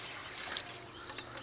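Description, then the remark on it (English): Water from a spring, carried in buckets, is poured steadily into a barrel for goats to drink, a soft continuous splashing and trickling rush with faint bird chirps in the background and no voices. “We pour the water into a barrel for the goats to drink.”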